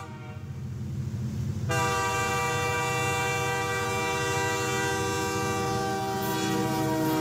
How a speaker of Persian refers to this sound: قطار از اون محدوده رد شد و دیگه همکارمو نگه داشت.